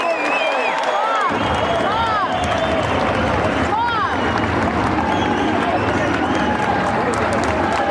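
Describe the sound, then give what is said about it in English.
A large boxing arena crowd breaks into loud, sustained applause and cheering for two boxers after a 10-round title bout, with scattered whistles and shouts rising over the dense wash of clapping. “Boxing fans, after 10 non-stop rounds of action, how about a round of applause for these two warriors?”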